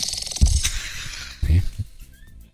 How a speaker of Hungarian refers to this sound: Horkolás esetében ön csak elvétve horkol, és akkor sem túl hangosan.